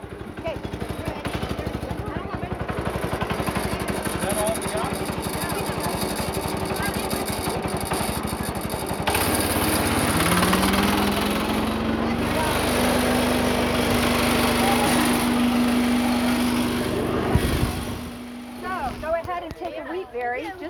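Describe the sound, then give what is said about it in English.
A loud, steady mechanical drone of a wheat threshing machine running continuously as it separates hand-harvested wheat berries from the stalks, with a rising tonal whine partway through as the engine picks up, before it winds down near the end. “Now they're coming over to the thresher, and they're going to see how we thresh the wheat.”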